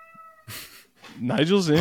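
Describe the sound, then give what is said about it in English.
A cat named Nigel lets out a loud, drawn-out meow with a wavering pitch, preceded by a brief burst of noise and a short quiet tone at the start. “I hope that doesn't get cut out with the background noise that Nigel just meowed super loud.”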